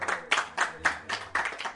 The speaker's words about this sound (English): Clapping hands. Western culture. If you like, you can say sadhu, sadhu. That's Shastric. That's Vedic culture. Clapping hands is there in Vedic culture. That's for kirtan.